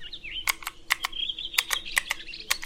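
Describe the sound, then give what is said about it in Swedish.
Continuous, fairly faint warbling birdsong on a summer day at a park bench, overlaid by sharp, irregular clicks of a developer slowly and laboriously typing code on a keyboard. No one speaks. “Det är en härlig sommardag. Fågelkvitter.”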